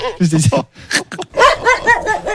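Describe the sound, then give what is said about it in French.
A person imitates a dog barking, producing a quick series of loud, voiced woofs and yaps in an uneven rhythm, with a short pause partway through. “Le chien.”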